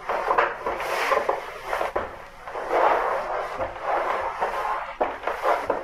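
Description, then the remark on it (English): Wooden doors strain and creak under force, a steady rough grinding and scraping with repeated surging pushes and knocks, fairly loud, with no voices. “I am waiting for the doors to give way. Do you hear them?”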